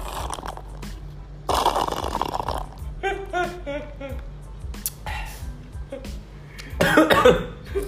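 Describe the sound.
A couple of rough, breathy coughs burst out close to the mic, one early and another near the end, with a person talking in the stretches between them.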